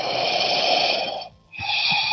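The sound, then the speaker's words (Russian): Steady yogic breathing through a slightly narrowed glottis, done while walking: a long breathy hiss that pauses briefly and then resumes with the next breath. No talking. “То есть он тоже должен быть естественным, не надо сильно перенапрягать вот эту голосовую щель, которую мы чуть-чуть как бы прикрываем, чтобы эти звуки проходили сохам, да, чисто звуком, дыханием они делаются.”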